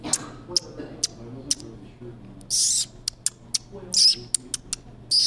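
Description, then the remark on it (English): A person pishing to attract birds: a run of sharp, hissy 'psh' bursts and brief clicks in an uneven rhythm, two longer hisses standing out, over a faint low murmur. “These little pishes, what we call pishes, you just do, and it just gets the bird's attention”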